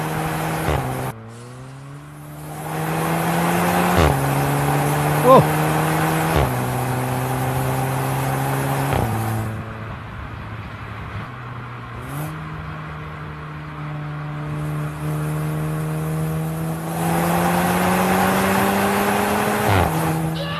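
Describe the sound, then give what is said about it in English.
A Volkswagen GTI Clubsport hot hatchback's engine revs hard, its pitch climbing and dropping sharply with each gear shift as the car accelerates on a night drive through central Johannesburg at 3 a.m., loud and continuous with no talking. “This is the just a night drive in the VW GTI Club Sport.”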